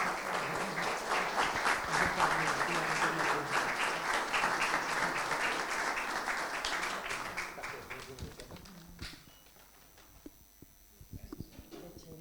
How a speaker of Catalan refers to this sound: Quan vulgui, si pot apropar-se a rebre el recordatori, benvinguda, un aplaudiment.